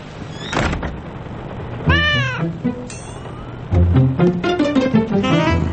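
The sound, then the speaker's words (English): Gilbert the cat meows several times, with drawn-out, wavering cries spread across a few seconds and some dull thumps and background noise mixed in. “Gilbert's a scaredy cat.”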